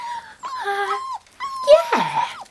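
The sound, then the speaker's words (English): A female puppy named Holly whimpers in two short bursts of high, wavering whines, the second rougher and edging into a small growl, with no one talking. “Yeah, it's a girl puppy.”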